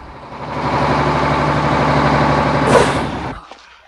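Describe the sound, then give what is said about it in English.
The engine of a heavy red breakdown truck rumbles steadily with low droning tones, swelling as it backs onto a parking lot and maneuvers, then a brief hiss of released air before the sound drops away. No voices. “He backs the truck on the parking lot.”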